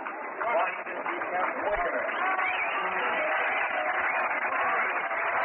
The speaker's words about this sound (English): Crowd applauds Wagner. A great fielding play. 2 fine fielding plays by Mike Wagner in this game so far, and some fine pitching.